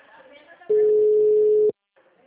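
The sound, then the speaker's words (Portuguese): A single loud, steady telephone ringing tone of an outgoing call lasts about a second, with muffled voices talking faintly before it and again just after it cuts off. “Não, estou chamando.”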